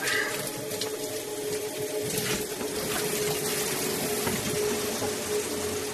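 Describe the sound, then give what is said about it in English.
Shower water runs steadily and continuously, spraying, with a faint mechanical hum underneath and no voices for the whole stretch. “Sit down in the shower.”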